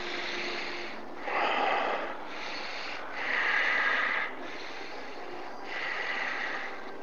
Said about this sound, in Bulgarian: Сега за около 2-3 минутки дълбоко, свободно дишане. Просто дълбоко поемаш въздух и издишаш. Не точно бастрика. Свободно дишане, по-плавно е, по-леко е.